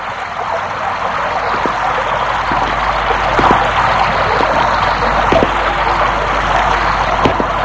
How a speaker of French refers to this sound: Une fois dehors, il pleut. La rue est déserte.